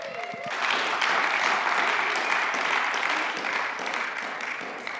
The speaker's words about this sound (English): Well, good morning. Thank you for the cheering section in the back. I appreciate it.